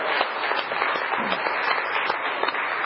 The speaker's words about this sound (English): And I just want to give another round of applause to everybody who worked on this and planned and organized.